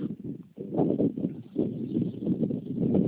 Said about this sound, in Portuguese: Eu tô escutando o som aqui, tá? Deve estar uma baita ventania aí, né? Nossa senhora, dá pra escutar daqui. Muito vento.